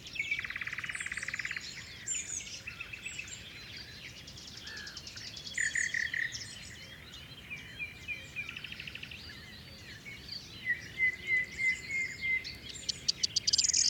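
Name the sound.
corn bunting song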